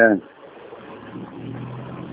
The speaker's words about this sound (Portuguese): É, tem uma zoada aqui de ônibus e tudo aqui.